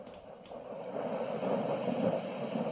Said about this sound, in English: So, I turn this on. And then it play a little rain sound. Let me show you.